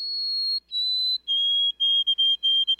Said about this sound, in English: Some birds have well-known mnemonics, like the, oh, sweet Canada, Canada, Canada, of the white-throated sparrow.